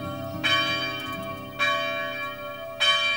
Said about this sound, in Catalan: Un dia, mentre descansaven sota d'una figuera, sentiren tocar les campanes del castell.